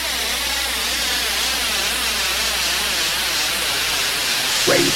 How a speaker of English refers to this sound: Lots of white noise at the start.